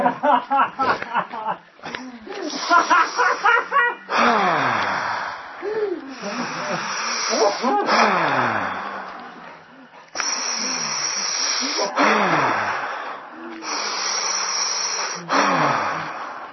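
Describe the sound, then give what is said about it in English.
Slow, deep breathing exercise: long, steady hissing breaths of several seconds each, with low voiced sighs and hoot-like tones sliding downward through them, after a few seconds of short voiced sounds. “We just have to train your system to breathe like that.”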